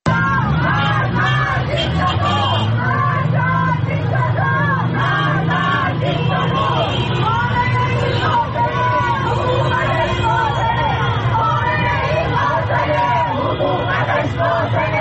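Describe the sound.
A large street crowd at a protest in Tehran, Iran, shouts and chants slogans against government officials, including Ali Khamenei, many raised voices blending into a loud, continuous roar that holds steady, with the rhythmic rise and fall of slogans.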